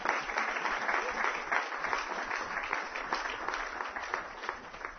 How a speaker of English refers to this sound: By the way, give her a round of applause, because she's done it.